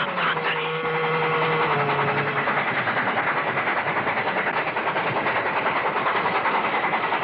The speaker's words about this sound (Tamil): ரயில் நெருங்கிக் கொண்டிருந்தது.